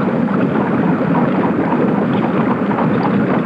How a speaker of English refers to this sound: Such a noise won't hurt you, Felipe. It's just the sound of the water.